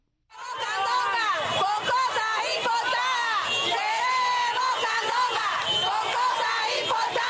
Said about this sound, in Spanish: Queremos la candonga, queremos comercio. Se oye gritar a varias personas frente a la sede del gobierno del Poder Popular en Santa Clara